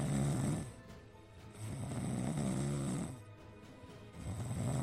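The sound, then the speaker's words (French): A man, a team physiotherapist, snores loudly in an airplane cabin during a return flight to Rennes, two or three long, rumbling breaths with a steady droning hum in the background and no talking. “Le kiné, habitué à jouer aux cartes lors des déplacements, ronfle carrément dans la carlingue.”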